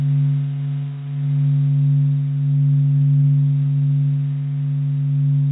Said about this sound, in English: because in space there are no molecules to carry sound waves to our ears. But there are electromagnetic waves that we can change into sound waves.